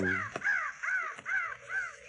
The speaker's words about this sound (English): You hear that? Could mean Indians made a camp. Those crows ain't flying. Figure they're sitting in the trees waiting for a handout. Unless they're feeding on carrion. Wouldn't be corn if they were. Sounds as if they're in those trees.